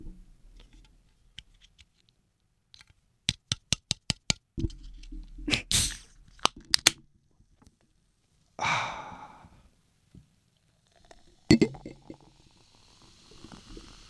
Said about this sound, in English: The beautiful sounds of an ice-cold beer poured into an ice-cold glass. Feel the release.